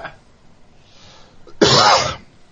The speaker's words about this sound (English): The cough actually works in that cameo as well. What's that? The cough that you just did after doing that would work in the Vince Neil cameo.